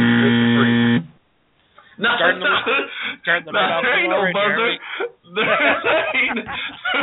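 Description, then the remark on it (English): A loud, steady buzz lasting about a second, a voice imitating a game-show buzzer, followed by a brief pause and then a man talking with a few quick breaks. “There ain't no buzzer. You have been buzzed, sir, for being a douche.”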